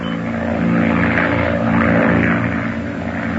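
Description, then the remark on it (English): A propeller monoplane drones steadily as it passes over the Channel near Cherbourg, France, its engine a loud, buzzing hum with layered low tones that swells slightly and then eases. No voices are heard. “A monoplane was observed passing over the French Channel by the fishing boat Jean-Marc.”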